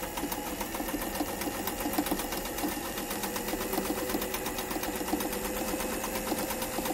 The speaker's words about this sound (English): And then there are two pieces of cloth here, one for each side. Put it into the sewing machine. And start right around.